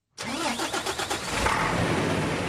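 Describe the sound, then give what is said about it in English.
A truck engine cranks over with a quick series of chugging pulses, then catches and settles into a loud, steady rumble. The truck is at the open gate of the Quneitra checkpoint in the Golan Heights, transferring apples from the Israeli side and about to cross into Syria. No one speaks. “The gate is just open, and the truck driver is about to cross into Syria, up here in the Golan Heights on the border with Israel.”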